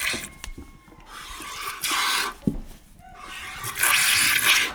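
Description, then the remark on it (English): Milk squirts from a goat being milked by hand hiss into a bucket in repeated bursts, a broad frothy spray that swells and fades roughly every second or two, with faint rustling and small knocks between streams. “I'll try to get it in the bucket. That's important. Right, that's the plan. All right, reach up, squeeze, and pull.”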